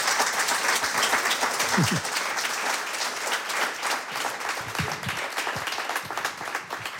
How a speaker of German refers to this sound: Ja, und jetzt bitte ich noch mal um einen kräftigen Applaus. Sie kommt schon auf die Bühne zum zweiten Auftritt bei uns.